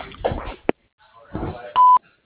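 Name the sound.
answering machine beep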